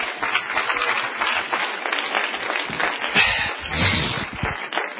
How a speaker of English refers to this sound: Oh, let's clap our hands. Hallelujah.